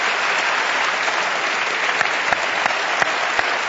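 Sustained audience applause for the show's guests at a meeting of Inform and the Commonwealth Club, a dense steady wash of clapping at even loudness throughout, with a few sharper individual claps standing out near the end. No voices are heard.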